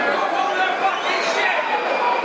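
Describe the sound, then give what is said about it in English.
A large football crowd at a Lions versus Hull City match, about nine minutes in, makes a dense, steady roar of massed voices that holds at a constant loud level for a couple of seconds, with no single voice standing out. “As you can hear, that's the crowd's verdict on the first 9 minutes of proceedings.”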